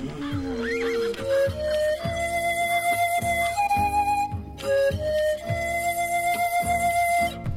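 A horse neighs loudly near the start, a wavering whinny, over a steady, rhythmic backdrop of sustained tones that continues throughout without any talking.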